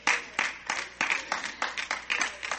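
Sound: a few people clapping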